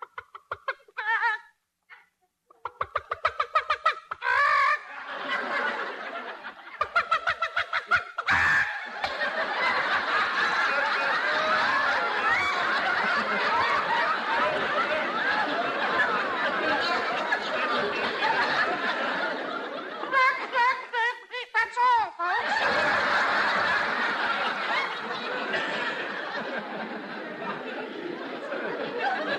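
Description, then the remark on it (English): Hens cluck and chatter continuously for about half a minute, one hen sitting on its nest, a dense, busy mix of overlapping calls with a few sharper bursts, steady in loudness. “look at that hen sitting on the nest.”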